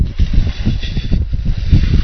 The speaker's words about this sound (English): Beautiful, and now let me pour some of the cake mix.